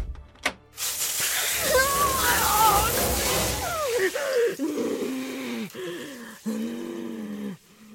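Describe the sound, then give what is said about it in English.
A strong, hissing rush of water spraying from a shower hose for several seconds, with a loud, warbling groan of a voice rising over it and carrying on after the spray fades. “If I can unhook the shower hose...”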